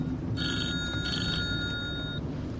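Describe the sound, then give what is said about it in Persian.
A telephone rings with a bright electronic trill in two bursts, steady high tones repeating over a low, continuous background hum with no voices. “اون داره زنگ میزنه.”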